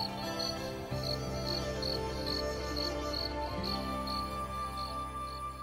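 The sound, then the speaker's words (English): A brown cricket in a hole chirps in steady, evenly spaced high pulses, roughly two per second, over a constant low droning background with no voices. “In that hole is a brown cricket, humming and painting.”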